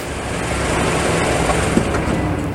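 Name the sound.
truck arriving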